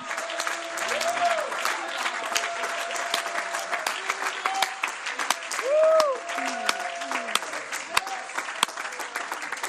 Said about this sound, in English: Oh, you ought to clap your hands and shout to God that he's still the giver of life.